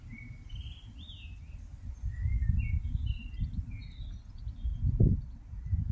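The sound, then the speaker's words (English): A single magpie in a tree calls with a series of short, warbling phrases over a steady low outdoor rumble with no voices present. “Magpie, one, tree, birds.”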